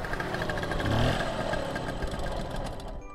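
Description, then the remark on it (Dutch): A scooter engine runs steadily as the scooter is ridden, with a buzzing, putt-putt drone that swells slightly about a second in, then holds moderately loud with no voices. “En als het hoofdgerecht achter de kiezen is, dan pakken ze de scooter om weer te rijden naar haar ouderlijk huis, vlakbij Amsterdam, om de pudding op te halen.”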